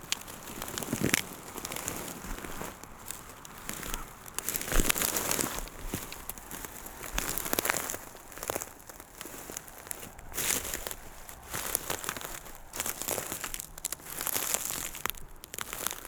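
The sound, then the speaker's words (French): Dry fern stalks of a soft fern bed crackle and crinkle in irregular bursts as someone gets up from it, a busy rustling texture with brief louder crunches and no voices. “Tout d'abord, je me relève de ce lit douillet de fougères.”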